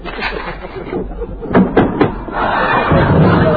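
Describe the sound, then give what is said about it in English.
A door that needs oiling creaks open: a few sharp clicks and knocks from the latch, followed by a long, rough, grinding creak that holds steady at moderate loudness until the end. “Hey, sure, that door needs a little oiling, don't it?”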